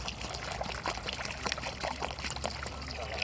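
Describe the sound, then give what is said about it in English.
Water pours steadily into a clay pot sunk up to its neck in the ground, irrigating tomatoes in a garden in Chegutu, Zimbabwe: a continuous splashing and gurgling trickle lasting the whole moment, with no voices. “Under this lid, sunk up to its neck into the ground, is one of several clay pots irrigating her tomatoes.”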